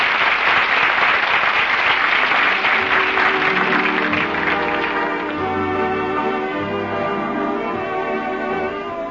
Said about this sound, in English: The audience is on its feet applauding. Miss Lottie and Mr. Soleil are bowing in front of the footlights. The play is a hit. Did the First Nighters like it? Listen to that applause.